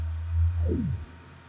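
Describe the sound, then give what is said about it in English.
A low, steady computer fan hum drones quietly for about a second, then a falling whine sweeps downward as the hum cuts off, leaving near silence. No one speaks. “You're hearing my computer fan.”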